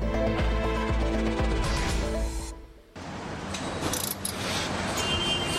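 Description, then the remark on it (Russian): Industrial machinery clanks and whirs at the Hyundai car assembly plant in Saint Petersburg, Russia, with steady mechanical hum, ratcheting and metallic rattles, a brief dip in noise midway before the busy clatter resumes. “Это завод Hyundai в Санкт-Петербурге.”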